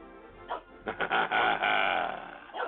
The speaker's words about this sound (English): You ready, Teddy? Come here. This is your moment to shine. You bark all week practicing for Possum Hour.